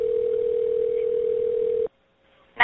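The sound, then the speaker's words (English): A steady, mid-pitched telephone line tone of a 911 emergency call hums over narrowband phone hiss for almost two seconds, then cuts off abruptly into near silence before a short burst of line noise at the end. The call reports an Amazon delivery drone in flight testing that crashed and started a wildfire near Pendleton Airport. “This is a 911 call from a year ago in June when an Amazon drone undergoing flight testing crashed so hard it started a wildfire.”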